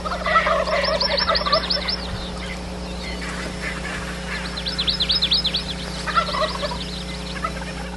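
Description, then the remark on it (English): Rio Grande turkeys gobble in rapid, rattling bursts as they wake up at about 6,000 feet on the side of Mauna Kea on the Big Island, during a hunt. One loud volley comes near the start and another toward the end, with faint gobbling between and a steady low hum underneath. “Rio Grande turkeys on the Big Island.”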